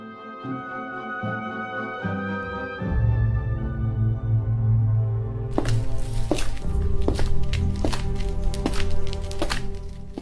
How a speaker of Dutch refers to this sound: In een halve slaap hoorde ik zware stappen weer klinken. In het licht van de maan zag ik geschrokken dat twee Russische soldaten op de drempel stonden en binnenkwamen.